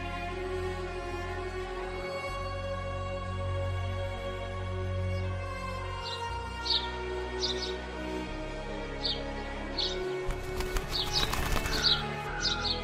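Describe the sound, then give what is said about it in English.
A bird's wings flap in a quick burst, with a few soft bird chirps and faint cooing over a steady low hum. “And make eye contact with the bird.”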